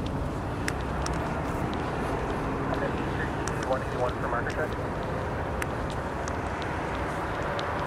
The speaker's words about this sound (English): We're getting near the subway, as you can hear. As you can hear, we're getting close to the subway station here.